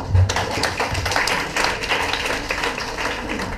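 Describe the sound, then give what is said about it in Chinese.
An audience applauds, a dense, steady patter of many hands clapping that holds at a fairly even level for a few seconds, with no voices on top. “这是我们第一个产品，掌声在哪里？”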